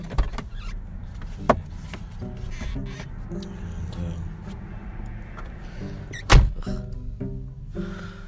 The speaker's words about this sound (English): Hello. I am in my car.